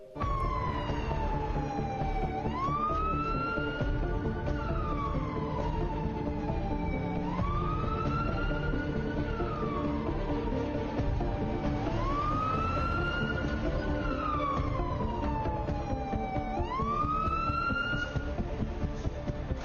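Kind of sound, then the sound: vehicle, emergency vehicle siren wailing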